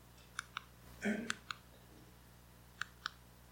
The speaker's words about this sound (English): I'm clicking and nothing's happening. Thank you.